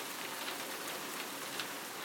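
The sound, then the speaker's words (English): A dense, steady patter of hailstones striking windows, a continuous hiss-like rattle with faint sharper taps, even in loudness, with no voices. “It's still hail. I wonder if I could hear it on the windows.”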